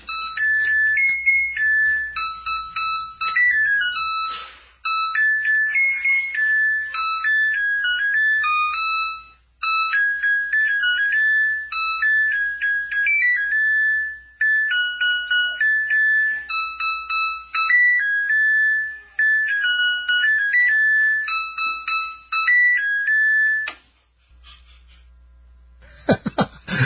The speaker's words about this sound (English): And it was, I believe, a Samsung washing machine. And if you have a Samsung washing machine, then the following will be quite familiar to you.